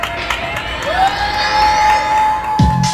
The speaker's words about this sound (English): And many of us look forward to 7 p.m., when neighbors across the city and around the world would begin cheering outside of their windows, thanking the essential workers who kept our society running.